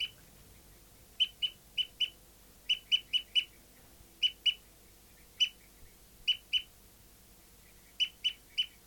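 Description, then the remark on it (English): A bird, recorded as bird 59, gives repeated tooping calls, short mid-high notes in bursts of two to four, evenly spaced and fairly loud over a quiet low background hum, with no talking. “So recording bird 59 is still tooping after 30 seconds.”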